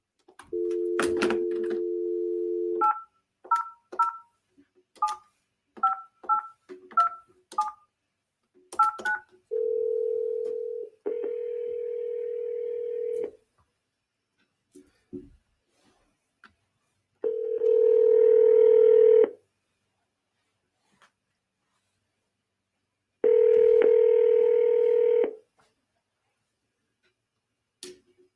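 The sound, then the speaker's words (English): A steady telephone dial tone, then a quick run of about nine dual-tone keypad beeps as a call is placed to a business in Nashville, Tennessee, followed by longer ringing tones repeating with pauses between them. Clear, with no voices. “We're going to make a phone call.”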